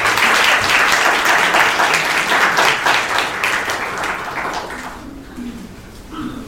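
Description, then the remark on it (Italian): An audience applauds at the end of a talk about space resources, with dense, steady clapping that stays loud for several seconds, then thins and fades toward the end as a few voices start to murmur. “Innanzitutto applauso.”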